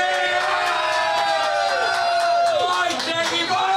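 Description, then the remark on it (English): A live show audience cheers and whoops loudly to welcome a guest, voices rising and overlapping in a sustained, lively burst of excited shouting, with some applause-like noise under the cheers throughout. “A round of applause for Craig.”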